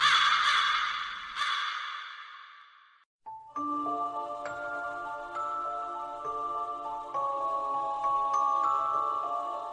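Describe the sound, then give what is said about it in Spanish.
A harsh, raspy crow caw sounds loudly and fades over a few seconds, then a brief pause gives way to steady, ringing bell-like chimes with no talking. “Estás entrando en la posada del cuervo.”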